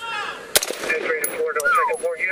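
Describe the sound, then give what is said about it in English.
A single sharp gunshot cracks out early, sudden and loud, over a busy background of raised, tonal voices and a wavering high tone that continue after the shot. “One shot ended the threat.”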